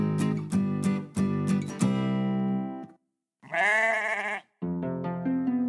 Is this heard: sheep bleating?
yes